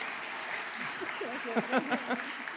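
An audience claps steadily for a person who has just played a pentatonic scale on the piano, in a dense, continuous patter, with a few raised voices calling out over the applause partway through.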